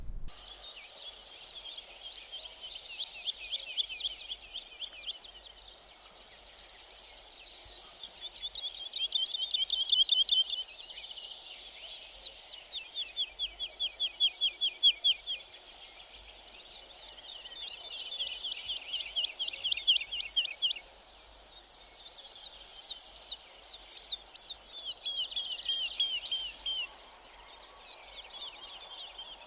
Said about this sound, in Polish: Nie jest łatwo sfotografować lerkę w locie, a Coolpixem P1000 to właściwie jest niemożliwe, albo prawie niemożliwe. W każdym razie posłuchajcie głosu lerki.